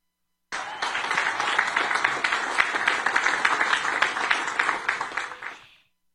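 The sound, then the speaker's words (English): Light, scattered applause for about five seconds, mostly from military commanders seated on the stage around Trump during his speech: a steady patter of many hands clapping that swells slightly and then trails off. No voices are heard. “Do you hear that very light applause, by the way?”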